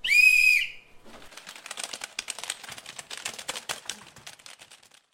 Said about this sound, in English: The rest of you, turn to your computers and begin typing when I blow the whistle.